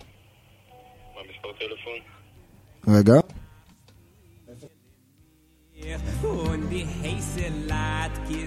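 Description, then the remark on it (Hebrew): A telephone rings in short electronic bursts, with a loud burst midway, while people talk around it. “טלפון שלך”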